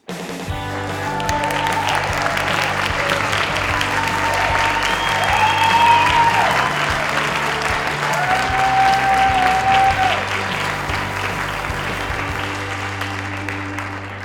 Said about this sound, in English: Thank you so much for joining us, and thank you for that wonderful applause. It soothes my soul to hear the vast audience enjoying the beginning of our show,